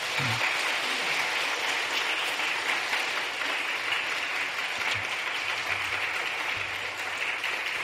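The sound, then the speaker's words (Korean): A large crowd at a church service applauds steadily to congratulate someone, a dense wash of clapping hands that stays loud and even throughout with no voices standing out. “우리 박수로 축하하겠습니다.”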